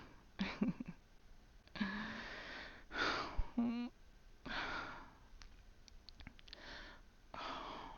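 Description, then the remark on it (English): Heavy breathing in uneven, drawn-out bursts, several breaths slipping into soft voiced sighs or moans, with short pauses between them and no words spoken. “Hearing you breathing like this.”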